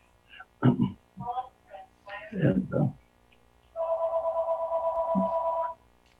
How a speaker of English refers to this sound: But in the background, my phone is ringing, so I'll just let it ring.